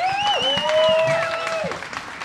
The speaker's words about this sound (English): We can have another round of applause for them.